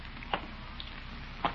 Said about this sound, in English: But it's beginning to sprinkle.